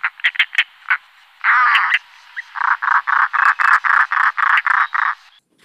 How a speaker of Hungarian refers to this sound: A mai madár egyik nagy kedvencem, a szalakóta lesz. Hát hallgassuk is meg egyből a szalakóta hangját, hogy tudjuk, kivel állunk szemben.